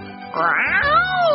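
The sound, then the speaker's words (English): A single drawn-out meow from a black cat, loud, rising then sliding down in pitch over about a second, with no talking around it. “The black cat came back.”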